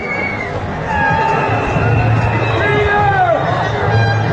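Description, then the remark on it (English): A large protest crowd in the UK, at a protest held over the weekend, makes a steady, loud roar of overlapping voices, with a few raised shouts and calls rising and falling above the dense babble. “And here's a protest that happened over the weekend.”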